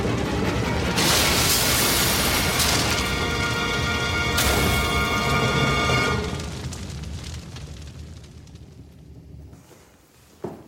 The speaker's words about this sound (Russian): Двое бандитов выпрыгивают из кабины, а грузовик, кувыркаясь, падает с высокой кручи и взрывается.